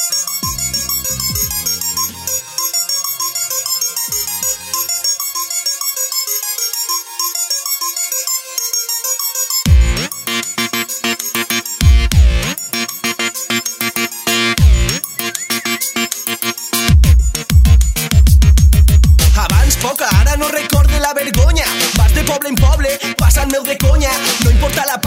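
A music track opens with a bright, high-pitched synth melody, then booming bass kicks and a driving beat come in and build into a dense, loud groove.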